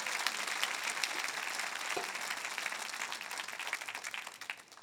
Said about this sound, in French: Voulez-vous applaudir de tout votre cœur?